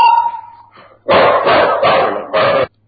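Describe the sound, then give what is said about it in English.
A big dog barks loudly, about four deep, rough barks in quick succession, after a brief high whine. No one speaks. “What the hell was that? That's a big dog, man.”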